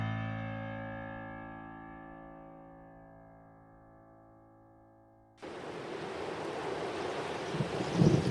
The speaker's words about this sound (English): Like it out here in the rain,